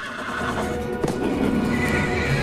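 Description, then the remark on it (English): A horse whinnies loudly and continuously as it rears up and charges, lashing its hooves at a mountain lion, with a sharp hoof strike about midway and heavy stamping underneath; no one speaks. “The horse charges past Katie, lashing its hooves at the mountain lion.”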